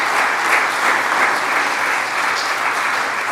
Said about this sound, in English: Help, volunteer, stand up. And I want to give them a round of applause because everything was perfect.